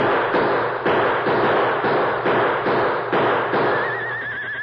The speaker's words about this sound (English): When I give the signal, start shooting, you hear? And don't stop until your guns are empty.